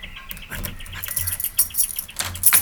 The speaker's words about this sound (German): Also, der größere eckige Schlüssel scheint für die Haustür hier unten zu sein.